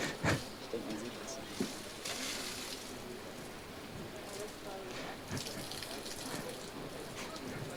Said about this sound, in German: Ja, das Wasser muss einmal raus, falls ihr es nicht gehört habt. Danach sollte genau das Mikro auch wieder ordentlich funktionieren.